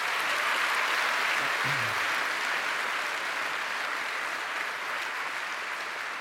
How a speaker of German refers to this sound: Vielleicht mal einen kleinen Applaus für netzpolitik.org an der Stelle.